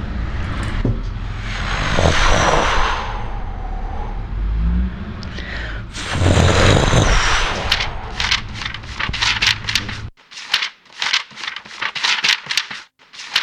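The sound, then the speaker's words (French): A voice imitates ocean waves with breathy, rushing whooshes: two long surges that swell and recede, followed by a quick run of short, hissing puffs. No words are spoken. “Vous pouvez imiter un peu? Le livre ou les vagues? Les vagues.”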